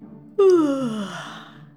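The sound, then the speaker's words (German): A rhinoceros, its eyes still closed, yawns once: a loud, drawn-out voiced groan that starts abruptly and slides slowly downward in pitch, tapering off over a second and a half above a faint low hum. “Seine Augen sind noch geschlossen, als er gähnt.”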